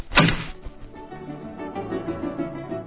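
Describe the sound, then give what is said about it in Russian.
An apple, picked from an apple tree by a crow and let slip from its beak, drops onto a sleeping hedgehog below with a single dull thunk, followed by a quiet, steady bed of soft tonal sound that lingers for a couple of seconds. “Только в клюве его не удержала, упало оно вниз.”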